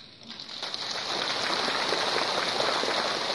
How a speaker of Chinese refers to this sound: 我呢想呢，因为呢听你们的掌声，我就知道你们对真正的佛法你们会不是太懂的